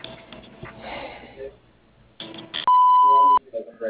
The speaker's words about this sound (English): If you'd like to leave a message, please do so at the sound of the beep.